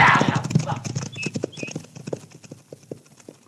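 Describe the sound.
Rapid clip-clop of horse hooves, a steady galloping rhythm that fades slightly as it moves away, with a brief voice or whinny-like burst at the start.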